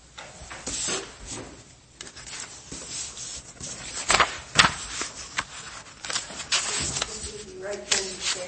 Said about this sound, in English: Now, let me hand this paper out.